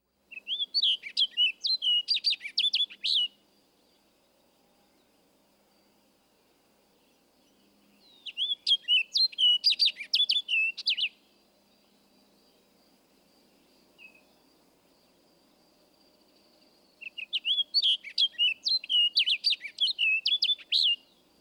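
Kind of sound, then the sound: bird, orchard oriole song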